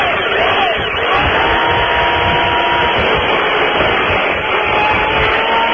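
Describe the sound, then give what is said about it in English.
A steady, loud electric chainsaw whine with a coarse, hissing grind as it cuts through the wooden legs of a table, holding an unbroken drone for several seconds with faint tonal hum underneath. “Is that an electric chainsaw?”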